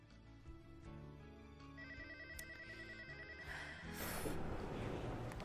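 A telephone rings with a repeating electronic ringtone, a bright warbling tone pulsing steadily over a busy background that grows louder and noisier toward the end.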